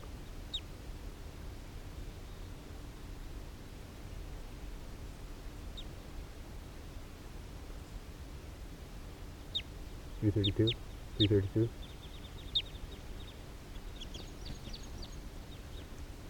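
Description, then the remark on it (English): Scattered high chirps and calls of wild birds, males and females, some on the ground and some flying over, over a steady outdoor hiss, with a pair of short, louder duck-like squawks partway through and a few faint calls near the end. “Some of the wild birds are coming down here near 3:32.”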